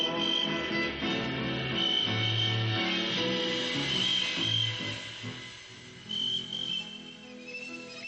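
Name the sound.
cricket chirping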